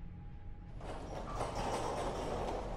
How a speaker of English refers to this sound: It was the heater. A heater that sounds just like a garage door opening.